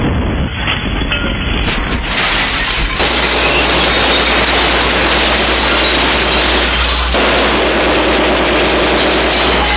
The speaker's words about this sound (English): thank goodness, to our Honda generator we picked up from Home Despot. A great buy. Ooh, that power.